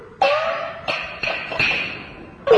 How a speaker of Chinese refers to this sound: 乌豆听到身后有脚步声，赶紧躲在一边。来的不是别人，是铁血团的老伙伴石匠李。石匠李发现地上的脚镣，四下寻找乌豆。